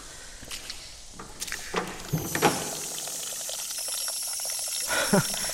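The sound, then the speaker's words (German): Steady rushing of water running from a washing machine in a house cellar, with a few scattered clunks and footsteps; a hissing spray builds and continues throughout at moderate loudness. “Man sollte eine Waschmaschine eben immer abdrehen, wenn man in Urlaub fährt.”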